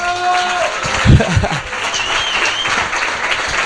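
An audience breaks into steady applause, a dense wash of many hands clapping at once, with a few louder whoops or cheers near the start before the clapping continues evenly.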